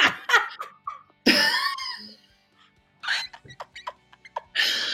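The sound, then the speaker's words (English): A voice mimics a dolphin with a rapid run of high, squeaky chirps and clicky bursts, fairly loud, broken by short pauses, with no words spoken. “Let's imagine we're on holiday somewhere glorious and hot and we're going on a little kayak in the sea, and then suddenly out of nowhere, what's that in the distance? It's only a bloody dolphin, isn't it?”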